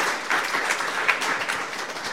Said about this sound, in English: Thanks very much. Round of applause for our athletes today.